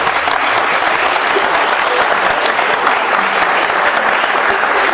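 A crowd claps steadily for the full five seconds for the coordinator of the Casa de Cultura de Santo Amaro, a loud dense wash of many hands with no pauses or voices rising above it.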